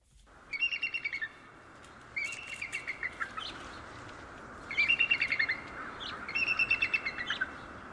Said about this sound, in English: Again, the sound of a bald eagle, which stays in New Hampshire for part of the winter time.